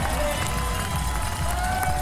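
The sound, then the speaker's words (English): A roadside crowd cheers for the rider Evie Richards as she comes through in a race, a steady, dense roar that holds at an even loudness for about two seconds, with no distinct voices standing out. “Listen to the crowd for Evie Richards here.”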